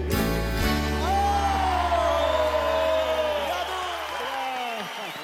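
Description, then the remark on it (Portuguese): An audience applauds and cheers steadily for about five seconds, with whoops and shouting voices rising over the clapping while a held musical tone fades out underneath. “Pode aplaudir mais.”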